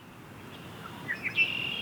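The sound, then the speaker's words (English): Newly arrived migrating birds sing in the open at the Great Meadows National Wildlife Refuge in Sudbury at sunset on a cool spring evening: a few quick rising chirps, then a sustained high whistling note, fairly faint over a steady outdoor hiss, with no one talking. “On this cool spring evening, as the sun sets over the Great Meadows National Wildlife Refuge in Sudbury, some of the newest arrivals are putting on a show.”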